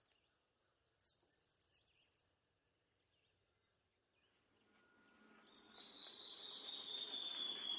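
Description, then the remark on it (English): A grasshopper sparrow sings twice, each song a few thin, high ticking notes leading into a long, dry, insect-like buzz, with a quiet pause between songs and a faint, thin overall level. “Now, the faint-voiced grasshopper sparrow and the white bellbird.”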